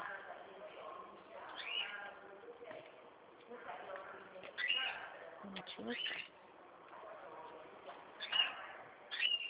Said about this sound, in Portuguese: Que bonitinho o passarinho, né? Menina, eu vou Ah, ela direto. fica o tempo todo aqui. Aí ele fica até mais alto que a voz do cliente, às vezes.